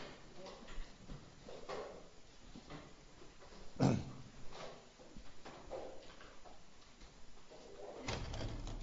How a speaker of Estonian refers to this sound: Selle ukse siin lahti. Ma tein, õues tegelikult nii kuum ei ole, aga siin sees kuidagi on.